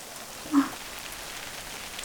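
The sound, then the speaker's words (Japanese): Steady rain falls in a forest, pattering softly on a surface, a continuous even hiss with no voices, broken only by one brief, slightly louder drip or tap near the start. “私は雨は嫌いじゃないです。”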